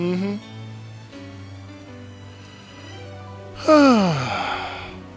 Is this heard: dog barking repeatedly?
no